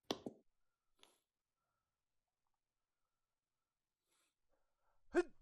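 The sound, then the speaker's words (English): A sharp sneeze bursts out at the start, followed by a long stretch of near silence, then a second sudden sneeze-like burst near the end. “Excuse me. Bless you.”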